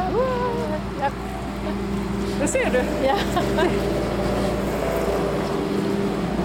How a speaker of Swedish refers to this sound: Det kom en bil eller en liten traktor här som vi inte visste om vi skulle släppa fram eller vi skulle gå.